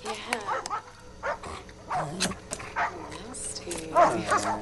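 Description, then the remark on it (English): Several dogs bark and yip in quick, overlapping bursts at kennels, loud, with a voice speaking among them as a woman offers them tinned food and feeds a dog. “She feeds a dog.”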